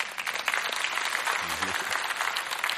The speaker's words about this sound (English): Now, as part of an illustration, I need my beautiful assistant. Won't you give her a round of applause?